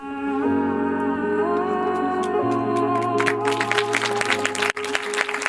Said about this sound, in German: Applaus im Genfer Kino Cinelux. Für einen Dokumentarfilm über historische Gerichtsurteile in den Niederlanden, wo Klimaschutzorganisationen gegen den Staat klagten und siegten.